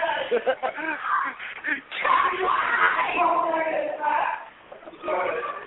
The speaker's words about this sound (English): All right, all four are outside the ring. I can't tell what's going on. I hear a lot of screaming.